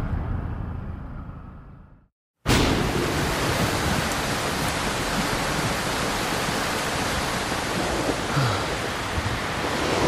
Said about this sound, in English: Oh shit, just got caught in some super intense rain. Wow, we're scootering home and the skies just fucking opened up on us. I am completely soaked.